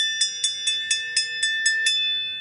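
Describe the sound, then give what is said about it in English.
A hand bell rings rapidly and repeatedly, about eight bright metallic strikes in quick succession with sustained ringing overtones, fairly loud, with no talking. “I love the bell, Captain.”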